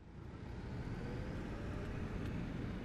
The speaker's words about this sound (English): Traffic.